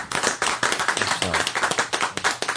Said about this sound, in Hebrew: אני חושב שאפשר מחיאות כפיים על כזה דבר. אפשר.